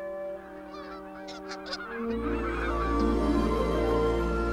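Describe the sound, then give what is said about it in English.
A flock of geese honks overhead in a dense, overlapping chorus of calls. Near the midpoint a low rumbling wash rises beneath them and thickens the sound. No voices are heard. “A flock of geese pass above.”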